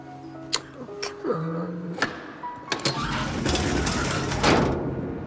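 A truck's back door is unlatched and opened, with a few sharp metallic clunks and squeaks followed by a longer rumbling slide, fairly loud.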